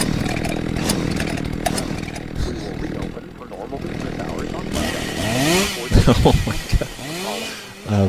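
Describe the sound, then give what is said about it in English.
A chainsaw engine roars steadily as a tree service cuts down trees at a house, its buzzing drone filling the first few seconds before a voice begins talking over the fading motor noise. “Get this chainsaw going here.”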